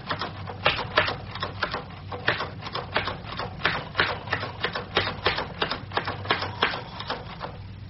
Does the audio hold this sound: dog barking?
no